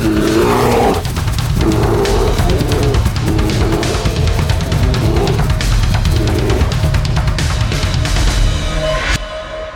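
bear roaring

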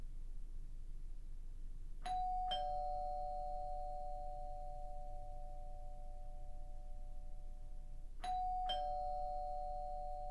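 doorbell ringing repeatedly

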